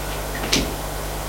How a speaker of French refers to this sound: Frappe à la porte.